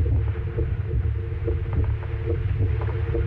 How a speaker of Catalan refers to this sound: Aquesta és la primera falca de ràdio, feta amb batecs reals, de persones que han superat una malaltia cardiovascular.